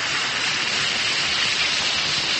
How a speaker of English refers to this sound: Just drop one or two tablets in a glass of water like this. Listen to it fizz.